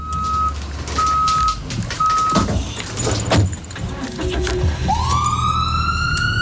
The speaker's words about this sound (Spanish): La ambulancia.